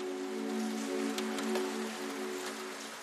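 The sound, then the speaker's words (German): Steady, gentle rain falls outside in a soft continuous hiss, with a few faint drips and a low steady hum beneath it, no voices present. “Der Regen draußen hat sich vielleicht ein wenig verstärkt, aber das Geräusch bleibt immer noch sanft und beruhigend.”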